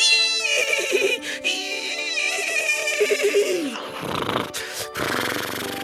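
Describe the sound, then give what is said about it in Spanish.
A horse that was not properly tamed bolts as a young man mounts it. It lets out a loud, shrill whinny, its pitch wavering and trembling for several seconds, followed by rough, noisy bursts of snorting and commotion. “Tan pronto como el caballo sintió al hombre sobre su lomo, se desbocó.”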